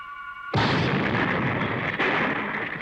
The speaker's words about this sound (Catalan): El pes s'estavella contra el terra i s'hi encasta.